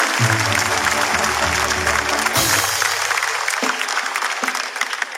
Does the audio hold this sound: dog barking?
no